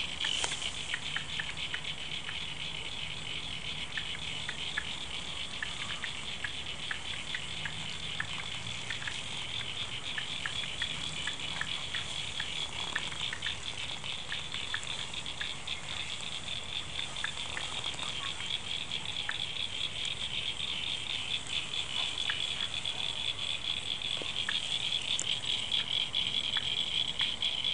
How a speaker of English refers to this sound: It's been raining quite heavily over the last few days. So, the abundance of water has brought about amphibious. Amphibious friends. So in the background you might be able to hear the frogs. Check it out.